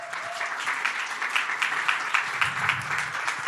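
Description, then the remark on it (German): An audience claps steadily for a speaker being welcomed on stage in the morning, the dense patter of many hands holding at a fairly even, moderate level throughout, with a faint low murmur underneath near the end. “auf der Bühne begrüßen und ich hoffe, ihr habt auch einen richtig fetten Applaus für sie heute Morgen.”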